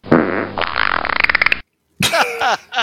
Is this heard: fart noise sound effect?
yes